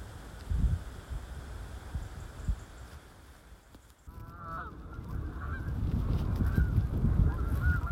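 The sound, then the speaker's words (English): A flock of migrating geese honks as it flies overhead near Stainburn, the calls faint at first then growing louder and more insistent over a steady outdoor rustle, a chorus of overlapping honks in the second half. “It appears that we've got a flock of migrating geese flying overhead, pointing us back in the direction of Stainburn Church.”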